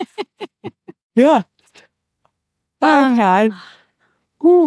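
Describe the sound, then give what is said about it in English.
A person yawns aloud, a long wavering voiced groan, preceded by a quick run of short vocal bursts and a brief drawn-out sound, then another short vocal sound at the end. “I'm yawning.”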